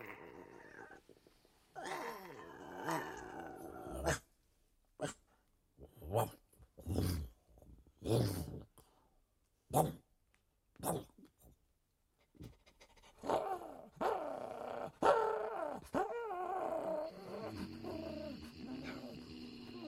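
A dachshund growls, then breaks into a run of quick, rhythmic panting breaths before a rougher, louder growling returns and continues to the end.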